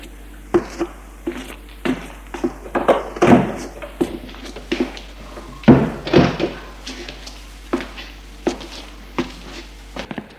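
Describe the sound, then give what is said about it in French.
A bedroom door is handled as a young man leaves the room, opening and closing with a string of uneven clunks, knocks and thuds spread across several seconds, the louder bangs standing out clearly. “Il sort de la chambre.”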